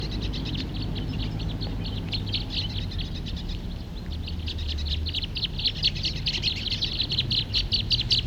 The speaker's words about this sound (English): So recording the same birds. Fighting.